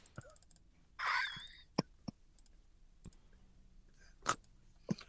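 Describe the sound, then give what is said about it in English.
Irregular sharp mechanical clacks of someone typing on a Braille typewriter, about half a dozen strikes with a brief rasping whir early on, fairly quiet, with no voices. “If it's a Tuesday, how do you put, if something pops up on a Thursday, so it's Tuesday, something pops up on your calendar Thursday, you have a Braille typewriter Hashem, to put it in on the calendar?”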